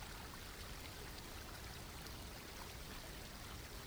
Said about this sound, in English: See if you can sense the origin of this water, bubbling up from the holy spring upstream from where you stand.